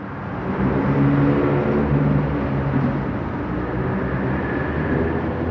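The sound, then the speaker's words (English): A loud, constant roar of heavy traffic rumbles overhead, a dense low-pitched wash of engine and tire noise echoing steadily with no pauses, heard from underneath an eight-lane expressway. “As cathedral-like as you can possibly get for being underneath a 8-lane expressway. It's loud, constant.”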